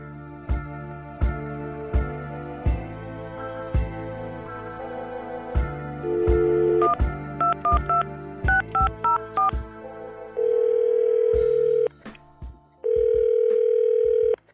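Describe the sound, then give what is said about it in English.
A quick run of touch-tone keypad beeps plays over a thumping beat, then two long, steady ringback tones sound as the phone line rings, fairly loud. A first phone call is being placed to a man met at a bar. “So with this guy's permission, he let me record our first phone call after meeting at the bar.”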